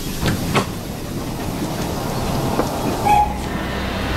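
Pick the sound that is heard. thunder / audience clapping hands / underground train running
underground train running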